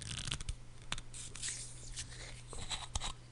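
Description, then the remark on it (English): A bottle of Jones Turkey and Gravy Soda is opened, with scraping and clicking of the cap and brief bursts of fizzy hiss over a steady low hum. No one speaks. “Let me turn off my compressor so you can hear the sound as I open the bottle.”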